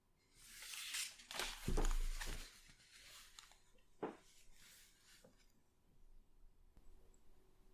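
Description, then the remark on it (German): Sharp clinks and scrapes of cutlery on plates, busiest in the first seconds, with a few isolated taps later and soft breathing audible in the quiet background. “Wir hören nur das Atmen wieder und das Klappern des Bestecks.”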